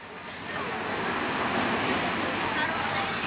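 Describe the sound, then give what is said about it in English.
Waves lap on the shore outside a restaurant on Luanda Island, making a steady, rushing wash of water that swells slightly after the first half second and holds at a moderate level throughout. “Waves lap on the shore outside the Barracuda restaurant on Luanda Island.”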